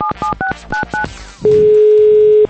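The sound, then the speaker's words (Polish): Five quick dual-pitch telephone keypad tones beep in a rapid sequence as a call is dialed to a mayor in the region, followed by a brief pause and then a single steady, mid-pitched tone that holds for about a second. No voices are heard. “Oto dzwonię do pewnego burmistrza z regionu, a tam...”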